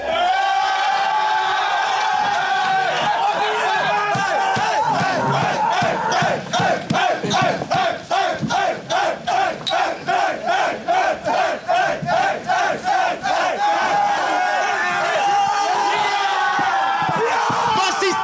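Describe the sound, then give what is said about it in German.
A big crowd of Hamburger SV football fans roars and chants, celebrating the club's promotion back to the Bundesliga, with rhythmic claps or stomps pounding steadily through the middle of the loud, sustained cheering. “Ja, das nur ein kleiner Ausschnitt aus der Jubelfeier des Hamburger Sportvereins.”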